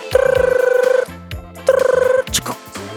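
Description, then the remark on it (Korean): A telephone rings in two loud trilling bursts, the second cut shorter, followed by a few brief clicks and shuffling sounds with no one speaking, as a radio show host connects a listener's call. “네, 전화 연결해 볼게요.”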